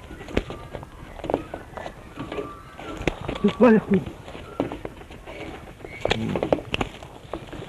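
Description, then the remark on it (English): An Australian musk duck named Ripper mimics human speech, repeating the phrase "you bloody fool": a few garbled, speech-like utterances with a sudden louder harmonic call midway, set against a steady rustling, clattering background with sharp knocks. “this is, I believe, a talking duck. A talking Australian duck.”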